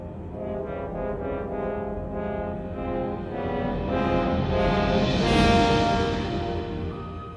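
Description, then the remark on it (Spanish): Orchestral music portraying a wolf on the prowl below, trying to reach the animals, leaping and snapping: rich, sustained brass-like chords that swell steadily louder, peak near the end, then ease back slightly. No voices. “Vamos a escuchar esta parte en la que está el lobo acechando.”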